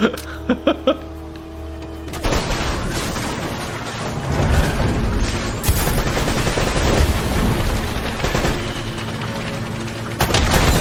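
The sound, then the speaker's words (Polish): Dense bursts of rapid video game gunfire, loud and continuous, with a few sharp shots at the start before the firing settles into a sustained, noisy barrage. “Ja do samolotu też mogę strzelać?”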